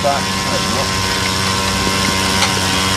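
machine, motor engine running

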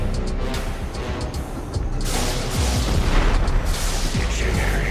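impact, car explosion

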